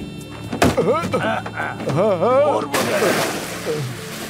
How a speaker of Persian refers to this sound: چه اتفاقی افتاد؟ اون افتاده تو آب، یکی نجاتش بده.